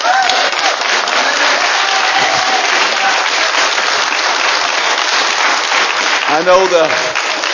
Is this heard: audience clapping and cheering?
yes